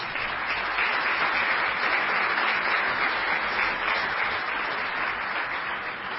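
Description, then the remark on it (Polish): A crowd claps steadily throughout, a dense, sustained wash of applause from a sizable audience with no voices standing out above it, at a team presentation, applauding team captain Jarosław Hampel. “Ja bym tak nie przesadzał z tymi oklaskami”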